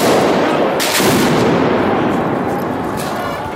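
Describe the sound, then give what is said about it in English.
Fireworks bang sharply twice, a few seconds apart, thrown under a police car during a street protest march in Atlanta, cutting through a constant roar of crowd and street noise outdoors. “Just got their windows broken, fireworks thrown under. Another firework.”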